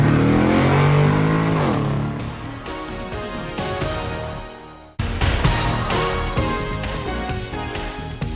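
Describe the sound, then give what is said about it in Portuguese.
A car engine revs up loudly, its pitch sweeping and climbing as it accelerates, then cuts briefly before roaring again in a second burst of hard acceleration, without any talking. “Sérgio, engata a primeira e acelera!”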